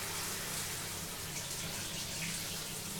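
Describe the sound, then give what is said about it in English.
Steady rush of shower water running continuously, a dense, even hiss of spray with no pauses, fairly loud throughout, with no voices. “by the time after 15 minutes I'm done and I take a shower and I'm ready, you know, to face the day more actively.”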